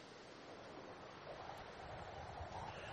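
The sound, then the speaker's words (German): Steady seaside ambience at a memorial stone for those wishing a sea burial: waves washing in continuously with a breathy wind rushing over them, a broad, even roar with no voices. “Der Abschied am Meer ist ein Gedenkstein für all jene, die eine Seebestattung wünschen.”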